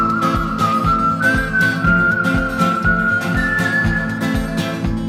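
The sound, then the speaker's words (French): A bright whistled melody glides over a song, held as long smooth notes above a steady, punchy drum beat and strummed accompaniment, loud and upfront with no voices. “il n'y a pas une chanson où il siffle.”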